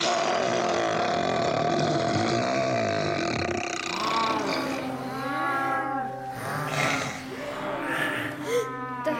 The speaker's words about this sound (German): Das sind Bären?